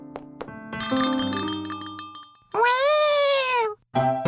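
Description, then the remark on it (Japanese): A cat at the Meitantei Konyun cat café meows loudly, one long drawn-out cry followed by the start of another, right after a bright chiming bell rings out for a couple of seconds. “とっても可愛い猫たちとこだわりの入れたてコーヒーがあなたをおもてなし。”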